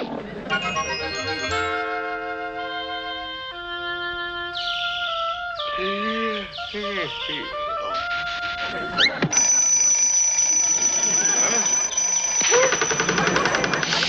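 alarm clock ringing

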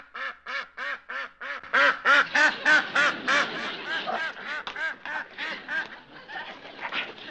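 duck quacking

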